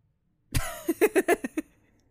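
A cat named Muse makes a quick run of short, chirpy meows, about five clipped calls in close succession after a soft initial burst, moderately loud with no talking.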